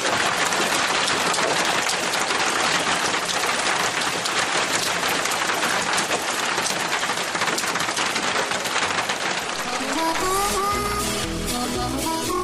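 Steady, dense morning rain patters down loudly for about ten seconds, a continuous hiss of drops on a surface, before music with sustained tones fades in over the last couple of seconds.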